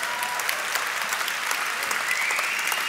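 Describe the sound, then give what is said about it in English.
Steady audience applause for the audience members under 30, who are standing, fills the whole stretch, a dense wash of many hands clapping at an even level with no pauses and no one speaking over it. “Let's first of all clap it up for all the youngsters in the room.”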